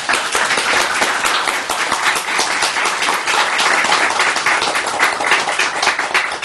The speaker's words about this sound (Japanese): 大きな拍手を。